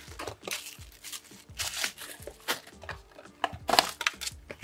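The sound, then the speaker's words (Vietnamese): Product paperwork, three kinds of papers including a warranty slip, being handled and taken from a bag, with repeated crisp rustling and crinkling bursts as sheets are shuffled and moved, fairly quiet and continuous with no talking. “Đây cũng có ba thứ giấy ở trong túi thì mình để lên luôn nhé.”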